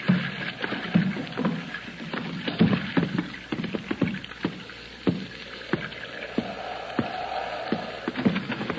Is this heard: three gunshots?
no